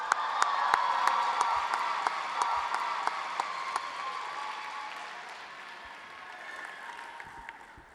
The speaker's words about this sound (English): Keep that applause going, and let us welcome to the stage the next poet